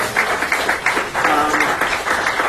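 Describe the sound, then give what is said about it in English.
Audience applause welcoming Spotify to South Africa, a steady, dense wash of many hands clapping for a couple of seconds, with faint voices and cheers mixed into the crowd noise. “It is extremely exciting, yeah, and we should give these guys an applause, right?”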